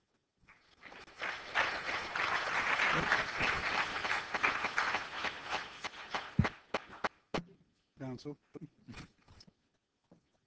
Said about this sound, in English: Counsel. They're applauding for you